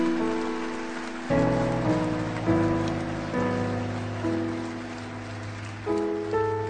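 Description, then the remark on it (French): A crowd claps steadily and continuously for the power of God, a dense patter of applause that never lets up, over sustained organ-like chords that shift every second or two. “Quelqu'un devrait applaudir plus fort que ça, la puissance de Dieu.”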